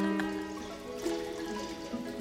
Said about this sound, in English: There's notated, improvised water sounds. So to do that, we had these mic'd aquariums to mimic the flowing, dripping water.